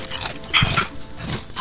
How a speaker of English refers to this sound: He's munching.